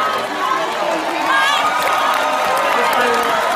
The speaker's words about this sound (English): Dude, it sounds like some people are clapping.